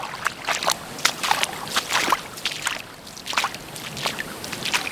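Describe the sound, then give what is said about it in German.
Water splashing in irregular bursts as someone wades into the sea from a hot beach, sloshing through shallow water step after step, with no voices. “Jetzt gehe ich aber mal ins Wasser.”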